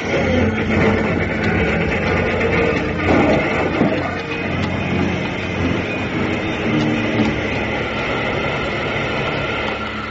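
A train engine roars along at speed as it plunges toward a bonfire on the ice, too late to avoid a crash: a loud, steady rumbling clatter with a hissing, grinding edge that holds unbroken for the whole stretch, with no voices.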